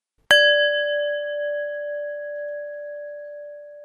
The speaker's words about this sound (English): At the end of each of these instructions, you will be invited to pause your MP3 player at the sound of a bell.